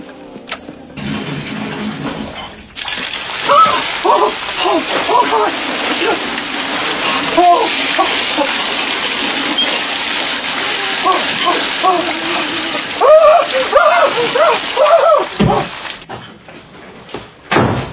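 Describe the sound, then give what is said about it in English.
A shower runs with a steady, dense hiss of water that starts a few seconds in and cuts off near the end, while voices talk over it. “I think I'm going to go back to my room and take a hot shower and maybe read a little Hustler.”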